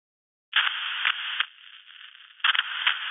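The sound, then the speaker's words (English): After a moment of silence, loud radio static bursts on abruptly as the radio's power switch is pressed, a harsh hiss that dips quieter midway, then surges back with crackling spikes, with no voices present. “the suddenly loud static of the radio piercing the silence and stopping him cold.”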